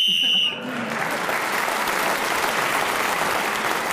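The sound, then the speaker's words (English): A brief, shrill whistle blast of about half a second, steady in pitch, ends a round of a panel game. It cuts off and gives way to loud, sustained applause from an audience. “So, … speaking as the whistle went, for 1 point for that, and others in the round, has helped him move forward, and he's equal now with Graham Norton in the lead.”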